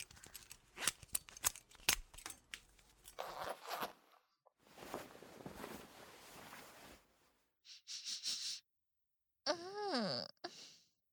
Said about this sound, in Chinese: 现在我就帮你解开裤子拉链，为你舔大鸡巴。